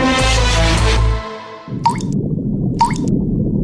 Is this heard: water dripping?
yes